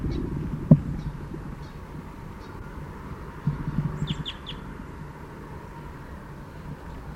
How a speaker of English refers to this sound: The birds are becoming aware of the net. Fight calls now by the cage birds.